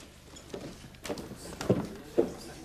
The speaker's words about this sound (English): Glumly, Mark listens to the sound of her retreating footsteps.